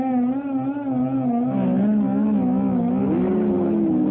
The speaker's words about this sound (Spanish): A ver, arranque. ¿Cómo arranque? Arranque, ponga el coche, encienda el coche y arranque.